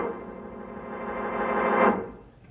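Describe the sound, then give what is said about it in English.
A weak, buzzy radio signal picked up on a receiver, taken to be a call for help, hums steadily through a narrow, tinny band, swelling slightly before fading out near the end, with no voices. “Because I wanted you to listen to that signal. If I'm not mistaken, it's a call for help.”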